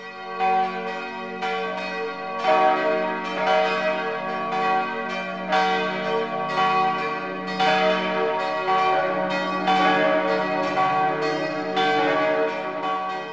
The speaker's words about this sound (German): Nun läuten die Glocken berühmter Stifte und Abteien der Alpen die Weihnacht ein.